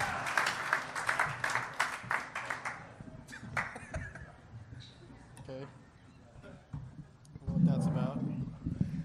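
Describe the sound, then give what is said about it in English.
An audience of 275 people at Parler Live claps loudly in a dense burst as guests including Anthony Jeselnik and TJ Miller are welcomed, thinning to scattered claps after a few seconds, with voices talking and laughing underneath as it fades. “keep it real silent for a while after the clapping stops.”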